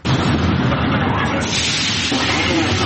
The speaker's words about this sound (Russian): Поезда проходят станцию метро «Технологический институт» в обычном режиме.